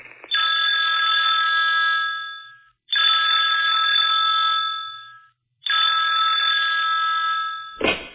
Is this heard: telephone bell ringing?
yes